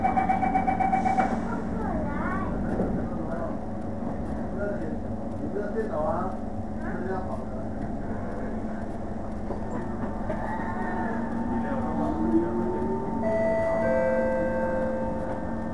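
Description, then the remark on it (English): Steady low rumble of a metro train interior, with a recorded announcement voice saying the train stops briefly because the train ahead is at the next station, over the hum, and a brief electronic chime near the end. “This train stops here for a short while because the train ahead is at the next station.”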